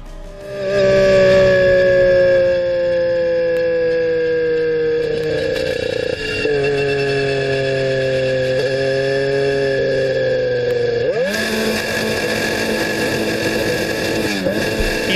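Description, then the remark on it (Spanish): Fernando Alonso's Formula 1 car with a Honda engine screams loudly and steadily at high revs during preseason running, its pitch sagging and wavering, then shifting abruptly into a rougher, noisier whine for the last few seconds as the Honda engine breaks. No one speaks. “Honda se rompió y Alonso tuvo que salirse del coche y bueno, el panorama no es bueno ni mucho menos.”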